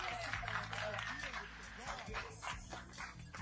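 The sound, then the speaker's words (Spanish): A crowd claps and applauds steadily for a few seconds, a dense crackle of many hands with music or murmuring voices continuing underneath. “Un aplauso”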